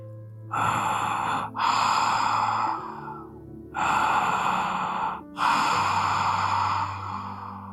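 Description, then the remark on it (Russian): Heavy, rasping breaths of a large animal, four long loud inhales and exhales in a slow rhythm, with nothing else around them. “Вздымая боками и раздуваясь до неба, задышал слон.”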